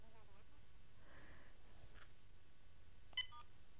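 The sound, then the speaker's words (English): Two short telephone keypad tones from pressing star then five on a conference call line beep in quick succession near the end, rising briefly above a low, steady hiss with faint murmuring earlier. “Can everyone hear that echo when I star fived?”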